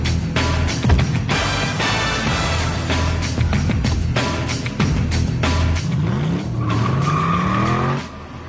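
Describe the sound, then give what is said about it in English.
A loud car engine roars and revs steadily as the car drives up through a tunnel, with rising whines and squealing tires toward the end, echoing. No one speaks. “Yep, and he's driving up in the tunnel, and you hear that, you know.”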